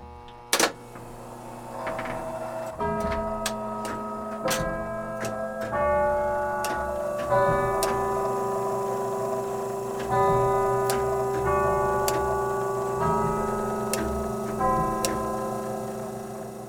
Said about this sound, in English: And he can't wait to play the chimes for me. Play your tune here with the Westminster Melody.